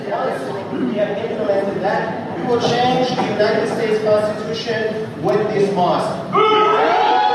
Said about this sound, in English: So everyone's booing. So he starts out the speech there going, we're going to change the Constitution. And everybody boos.